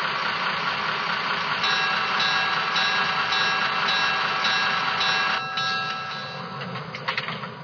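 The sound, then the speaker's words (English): A passenger train, train number 198 on Vancouver Island, rumbles steadily and loudly along the rails, with a continuous low engine drone and rattling wheel noise, easing slightly toward the end with a few clanks. “Vancouver Island on track 1, train number 198, the Malahat Dayliner.”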